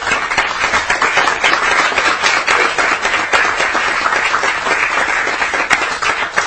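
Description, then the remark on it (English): Steady applause at a legislative committee hearing at the Capitol, welcoming visiting St. Peter High School students who are spending a day in government operations. A dense patter of many hands clapping at once holds an even loudness for several seconds, with no voices standing out. “These are students joining us today in government operations on a day at the Capitol from St. Peter High School. Let's give them a welcome.”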